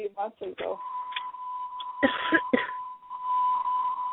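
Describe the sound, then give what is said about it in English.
A loud, steady electronic alert tone from an emergency broadcasting system test starts after a moment and holds continuously to the end, while people talk and cough over it. “Oh, wow, that is loud as shit. My bad. That was my bad. Or that beeping noise.”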